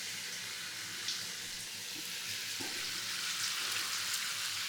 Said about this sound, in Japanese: タオルも失礼いたします。はい、それではシャワー失礼させていただきます。